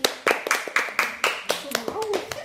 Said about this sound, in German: Also ich habe da bei diesem Malwettbewerb da gewonnen und mein Bild ist jetzt da. Dürft ihr ruhig klatschen.